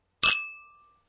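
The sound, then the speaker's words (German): A single bright clink of wine glasses touching before a small sip of wine, a sharp strike followed by a clear high ringing tone that fades away over about a second, with no voices. “Ich gönne mir heute mal ein kleines Schlückchen.”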